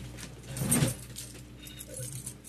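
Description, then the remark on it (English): A quiet jangle of keys, including a post office box key, with a brief cluster of metallic clinks early on, then softer scattered rattling and one last small clink at the end. No one speaks. “This is definitely my post office box key right here.”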